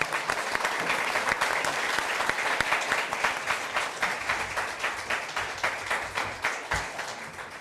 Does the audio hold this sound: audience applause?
yes